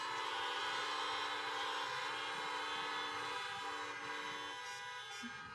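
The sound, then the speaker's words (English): Several car horns blare together on Easter morning as people honk in answer to "Honk if you love Jesus", one long, overlapping chorus, held steady and loud for the whole stretch with no voices over them. “Honk if you love Jesus.”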